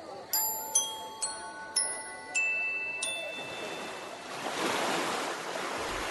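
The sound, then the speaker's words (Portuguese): A handful of ringing, chime-like tones sound in sequence, then give way to a swelling rush of stormy waves and wind on a lake, waves washing over a boat, surging steadily and fairly loud to the end. “De repente, uma grande tempestade agitou o lago, de tal maneira que as ondas começaram a cobrir o barco.”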